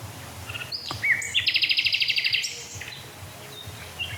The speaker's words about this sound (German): Also ich glaube, die beiden Nachtigallen sind deutlich wahrzunehmen. Wenn du mit Kopfhörern hörst, solltest du hören, dass von links eine Nachtigall kommt und von rechts eine Nachtigall kommt.